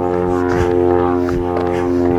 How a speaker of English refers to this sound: There's a small twin-engine jet flying overhead.